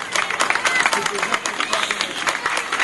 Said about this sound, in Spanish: Señoras y señores, un gran aplauso. Este aplauso es bien merecido por el labor que hace Demetrio Pérez y todos los que trabajan incansablemente para organizar esta parada.